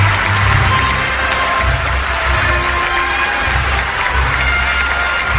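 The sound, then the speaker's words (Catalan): A large audience gives Hollywood star Harrison Ford an ovation after the screening of the film closing the Indiana Jones saga, a loud, dense wash of clapping with some cheering mixed in, sustained without a break; the ovation lasted up to six minutes. “Toni, fins a 6 minuts va durar l'ovació a l'estrella de Hollywood ahir, després de la projecció.”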